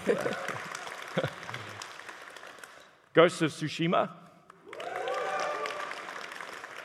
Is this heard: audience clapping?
yes